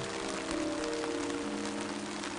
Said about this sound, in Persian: اینجا اگه سقف نداره چجوری داره بارون میاد؟